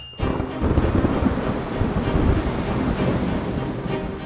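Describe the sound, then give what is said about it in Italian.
Heavy rain pours down at Waterford Airport on 8 July 1985 in a steady, dense roar with a deep rumbling undertone, starting abruptly and continuing loud and unbroken throughout, with no voices. “Piove.”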